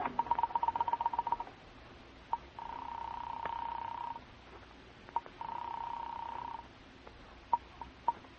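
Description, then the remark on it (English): A telephone is dialed in a drugstore phone booth: a fast run of clicking pulses, followed by two long, steady ringing tones on the line with a few sharp clicks in between. No voices. “And then shortly before the session ends, you slip away and enter a drugstore phone booth across the street.”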